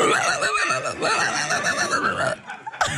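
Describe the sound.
A person vocally imitates a pig, making a continuous, loud, raspy squealing and grunting sound for a few seconds, with a brief sharp burst near the end.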